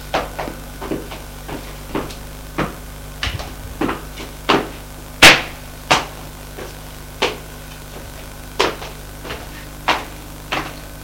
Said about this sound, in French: La femme frappe à la porte du salon.